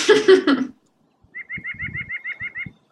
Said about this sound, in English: There are some birds up there, the nuthatches, and they go, hah, hah, hah, hah. Well, it sounded like they were laughing at me for choking down this terrible food.